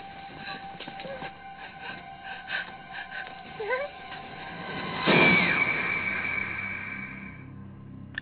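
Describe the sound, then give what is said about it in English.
In a movie trailer, a loud car crash bursts out partway through, its metallic ringing fading over a few seconds, set against a steady, tense droning backdrop with a few rising wails beforehand. “Yeah, lots of screaming and crashing cars.”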